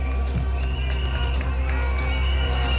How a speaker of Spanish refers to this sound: Que se escuche hasta La Moneda. Este es el aplauso al discurso de la CUT, la Central Unitaria de Trabajadores y Trabajadoras.